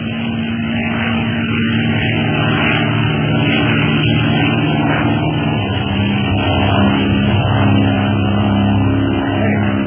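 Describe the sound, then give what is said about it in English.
The propeller engine of a plane painted black drones loudly and steadily throughout, a dense buzzing hum with strong low tones and no voices, swelling only slightly. “It's a plane, all right.”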